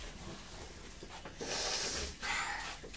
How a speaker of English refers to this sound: You're sniffing. Oh, excuse me, you're sniffing and I'm sneezing.